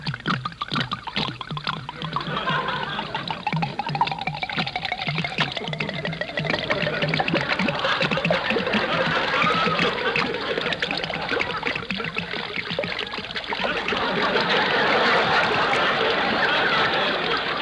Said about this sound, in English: Go ahead and pour it into the mincemeat. I'll pour this bottle in, and then you pour another one in.